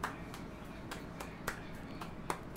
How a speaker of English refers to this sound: It was a round of applause. My God, that was an encore.